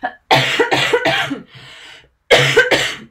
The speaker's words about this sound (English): And I feel like I need to cough now again. So I'm just going to cover the microphone.